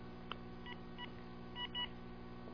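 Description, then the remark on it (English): A series of short electronic beeps sounds at uneven intervals as a phone's volume buttons are pressed to turn it up during a call, over a steady low hum with no one speaking. “Let me turn my phone up.”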